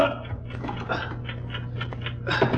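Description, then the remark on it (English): Muffled, steady ticking from inside a travel bag, a regular run of soft clicks over a low continuous hum, fairly faint and close by. “Yes, the ticking's coming from inside the bag.”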